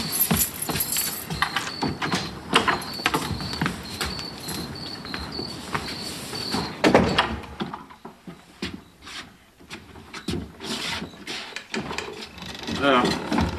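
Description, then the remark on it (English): A door is opened and shut with a few clattering, wooden knocks and a louder thud midway, over a steady high chirping of insects and faint murmuring voices. “would you do me one last favor and just get the door for me?”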